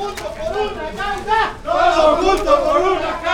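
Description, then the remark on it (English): A group of volunteers chants together in unison among stacks of water, loud and rhythmic, with stacked harmonic tones rising and falling in repeated phrases over a background of crowd noise. “Elias Moreno, the city's civil protection secretary, stands among stacks of water as he watches the chanting volunteers in action.”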